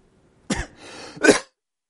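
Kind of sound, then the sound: human body sound, coughing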